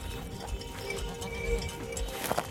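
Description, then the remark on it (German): Hooves of a dairy cow in Germany clop at a slow, uneven walking pace on the way to pasture, moderately loud, with faint voices and outdoor noise in the background. “Eine von knapp 3,8 Millionen Milchkühen in Deutschland.”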